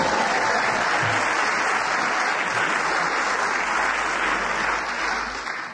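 An audience in a hall bursts into steady, dense applause that holds at full strength throughout, with many hands clapping together, then eases off slightly at the very end.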